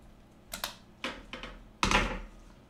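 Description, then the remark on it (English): An old pencil eraser rubs against a paper chart in a few short, scratchy strokes, fairly quiet, with the last stroke longer and louder than the rest. “Oops, that's in the wrong place. Oh, I've got an old pencil eraser here.”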